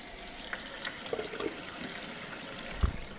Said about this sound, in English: First thing next morning, I trudge downstairs to the kitchen with my sample bottle. I'm going to open it. So I'm going to turn on my water.